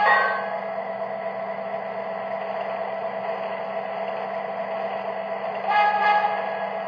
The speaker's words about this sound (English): Hey, keep an eye out for road train. There's a road train approaching. Keep cool.